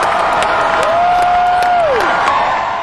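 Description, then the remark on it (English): A large concert crowd waiting for the encore screams and cheers continuously, many girls screaming, a dense roar of voices with sharp claps or whoops poking through and one high, sustained scream rising and falling over the din. “Listen to the screams here.”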